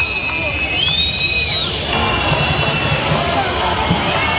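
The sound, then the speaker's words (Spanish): At a military parade, a large crowd boos the president of the government in a dense, continuous roar as he leaves the official stand, with several shrill whistles rising and sliding above the din for the first couple of seconds before the noise settles into a steady jeer. “Abucheos que se han repetido también cuando, antes de montarse en el coche oficial, se marchaba de ese punto, de esa tribuna oficial, el presidente del gobierno.”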